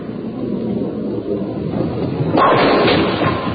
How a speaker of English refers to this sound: That almost sounded like a wave coming our way. Oh, it certainly did. It hit something.